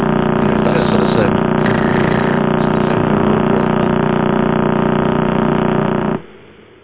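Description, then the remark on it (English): A recording of a pulsar, the remnant neutron star of an exploded star, rotating about 30 times a second, played as sound: a loud, steady, rapid pulsing buzz, about thirty beats a second, rattling like a road drill, then cutting off abruptly into faint hiss. “This one sounds a bit like a road drill.”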